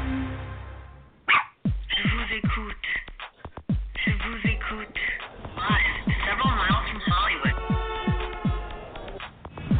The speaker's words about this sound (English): just previously my barking dog, Aida.